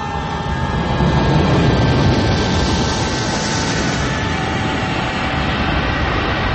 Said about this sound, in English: I need to sit underneath a plane when it's landing. I take a pause. I thought it was taking off. No, it was landed. Landing. It was a landing.